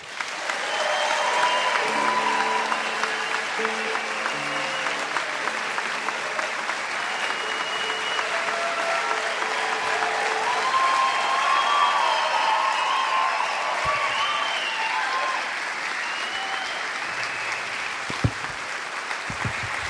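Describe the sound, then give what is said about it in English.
A large audience at the Mountain Stage show in Bristol, Tennessee, claps steadily and loudly for about twenty seconds to welcome back Doc Watson, a dense, even wash of applause with a few faint cheers and whistles mixed in. “I'll try to do the best I can after an applause like that.”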